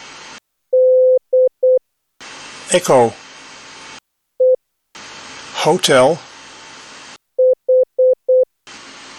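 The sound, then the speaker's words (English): Short and long electronic beeps of a steady mid-pitched tone tap out Morse letters in small groups, each group followed by a voice announcing the letter in the phonetic alphabet, such as Delta, India, November and Victor. “Dus eerst alle gebruikte letters met aankondiging, en dan een paar keer het woord.”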